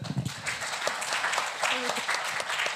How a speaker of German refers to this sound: Das war eine sehr ehrliche Antwort. Ja, da kann man mal Applaus dafür geben, oder?